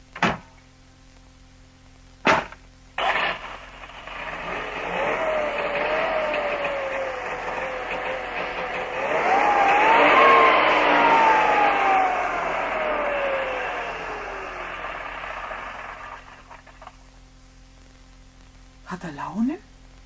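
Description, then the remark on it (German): After a couple of sharp door-like clunks, a small car engine strains and whines for several seconds, its pitch surging and then sagging unevenly before it dies away, ending with a brief knock. “Aber es hat nicht so geklungen, als ob er einen guten Willen hätte.”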